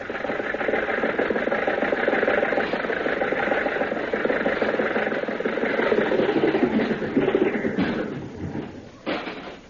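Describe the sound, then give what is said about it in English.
A car engine runs steadily at a moderate level with a dense, rumbling hum as the car is driven around a drive-in theater, easing off slightly near the end before a brief bump in the final second. “I'm doing the driving.”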